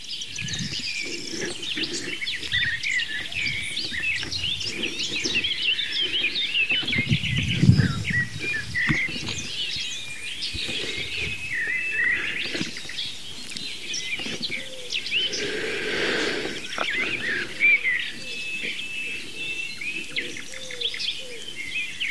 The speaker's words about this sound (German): Die Ringeltaube, die ist kein Singvogel, das ist eine Taube.